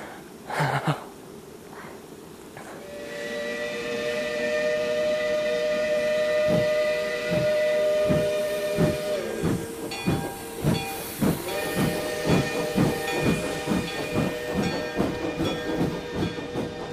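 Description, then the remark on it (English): A steam locomotive's whistle blows in long, sustained tones over steady hissing steam as a special railroad company train departs Vermissa's railroad station, while the train's rhythmic chuffing and clanking builds beneath it, loud. “The special train sent by the railroad company made a swift, unbroken journey away from the land of coal, iron, clank, and roar.”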